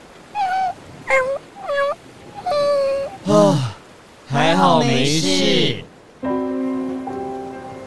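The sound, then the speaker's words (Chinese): A frightened small dog on a boat being rowed hard whimpers and yelps in a string of short, high, whining cries, then a louder wavering howl and a long drawn-out whine, fairly loud with no talking. “紧张时刻，小尼也加入哥哥划船的行列，小狗害怕的叫了起来。”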